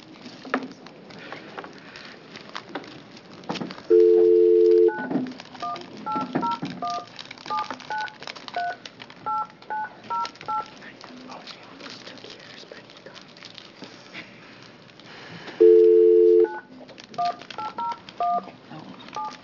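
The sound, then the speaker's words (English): A phone call being dialed to reach a witness testifying by phone to the Oregon Legislative Joint Committee on Public Safety: a sustained dial tone, then a quick run of touch-tone beeps, repeated twice with a second burst of tone and keypad presses near the end, over faint background rustling. “Would you rather I get her on the phone so you can introduce her?”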